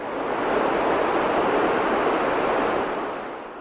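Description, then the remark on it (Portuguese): Steady, dense hiss of rain falling, swelling in over the first half second and easing away near the end, with no voices or other sounds. “O som da chuva já não traz apenas alívio.”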